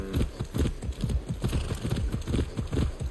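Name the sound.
horse hooves clip-clopping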